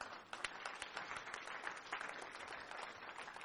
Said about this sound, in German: Halleluja. Da klatsch mal für Jesus.